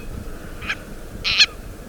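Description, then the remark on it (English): A Hawaiian owl gives two harsh, raspy calls, a brief one followed by a longer, louder squawk, against a faint, steady outdoor hiss with no talking. “Or perhaps the seeds hitched a ride on the ancestors of this Akeapola owl we're hearing, caught in a storm and blown to the Hawaiian Islands.”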